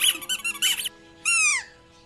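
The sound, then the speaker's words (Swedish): A squeaky dog chew toy, offered to a dog named Lady, gives a quick run of sharp, high squeaks, then after a short pause one long, loud squeal that bends downward in pitch. No voices are heard. “Inte det, men vad säger som en tuggleksak?”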